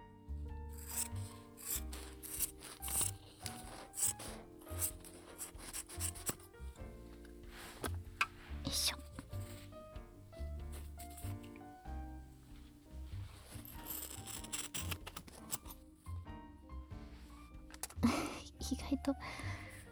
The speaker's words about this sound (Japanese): わかる？ ハサミで 布を切る音。